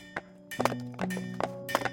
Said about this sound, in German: Ein Schmied, ein Holzfäller, ein Pferdestall, alles gleichzeitig, alles surreal.